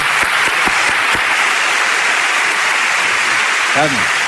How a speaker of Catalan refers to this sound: I vull que l'aplaudiu, que és una crac.